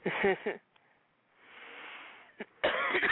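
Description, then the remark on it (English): A person who is getting a cold coughs in a few harsh bursts, with a quiet breathy pause and a sniff between the fits before a final loud cough. “That's why I've been coughing and stuff like that.”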